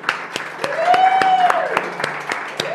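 An audience applauds the event's organizers with steady, evenly spaced claps, moderately loud, while a drawn-out cheering voice rises and falls over the clapping.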